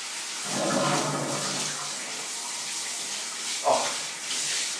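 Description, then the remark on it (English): Water pours steadily from a bath tap in a small 3-star hotel in Lourdes, a continuous hissing rush that swells slightly early on, with a brief louder splash or gurgle near the end and no voices. “I wanted to know how you stop the water coming out of the tap.”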